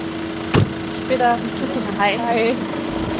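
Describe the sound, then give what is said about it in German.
A car engine idles with a steady low hum as a woman's husband brings her by car to her chemotherapy appointment; muffled voices speak briefly over it and a short thump sounds near the start. “Ihr Mann bringt sie mit dem Auto.”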